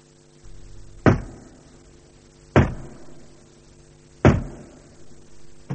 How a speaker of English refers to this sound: You come in. Don't knock. And don't knock so loudly either. Did I knock too loudly for your sensitive, pearly ears?